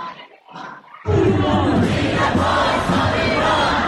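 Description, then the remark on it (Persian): A quiet, murmuring stretch gives way after about a second to a loud, dense crowd roar as protest march participants in London shout slogans together, such as "Democracy for Iran" and "Death to the dictator", in a sustained, forceful wall of sound that stays loud to the end. “اینجا در لندن شرکت کنندگان در این راهپیمایی فریاد می‌زنند: دموکراسی برای ایران، آخوندها باید از ایران بروند.”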